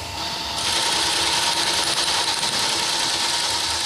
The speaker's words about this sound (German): Fernschreiber, haben wir ja gesagt, war ja der Vorgänger. Da drücke ich auch mal auf den Knopf.